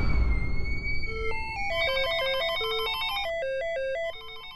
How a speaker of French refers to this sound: Là, ça sonne dans tous les sens, au Motorola, le téléphone qui sens.